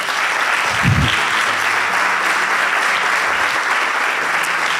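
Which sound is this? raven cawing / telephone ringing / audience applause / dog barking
audience applause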